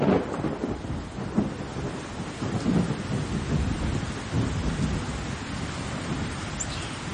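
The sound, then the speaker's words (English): A thunderstorm with steady, heavy rain and deep thunder rumbling and rolling throughout, continuous, with no voices. “So if we think of the thunderstorms and the stormwater drainage infrastructure that Hanele spoke of”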